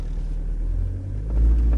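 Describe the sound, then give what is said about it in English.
A car accelerates during a demonstration with a helium balloon inside it: a steady, deep engine rumble that swells louder in the last half second as the vehicle picks up speed, with no voices. “So let's accelerate again”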